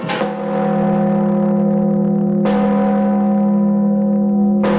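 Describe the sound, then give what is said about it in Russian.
A new large main church bell (blagovestnik) of over 7 tons, in the settlement of Bolshoye Kazino, is struck three times on the day of its blessing, at a slow, steady pace, each loud, deep clang swelling into a long, humming resonance that carries into the next strike. “С особым трепетом ждали первого удара в благовестник.”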